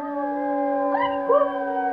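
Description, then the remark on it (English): A dog howls in a long, steady, tonal wail, its pitch sliding up and bending midway before settling back, loud with no voices. “Where's all this barking coming from?”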